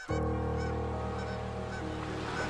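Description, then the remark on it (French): A flock of common cranes migrating north calls continuously overhead at high altitude, many loud, overlapping trumpeting and honking voices blending into a steady, dense chorus with no pauses. “Par centaines, par milliers, les grues cendrées ont traversé notre ciel en remontant vers le nord.”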